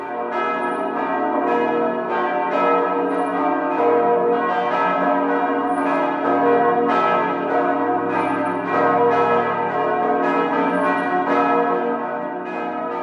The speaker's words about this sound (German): Auch das ein ganz eigener Klang. So hören sich die Kirchenglocken von St. Ägidien an.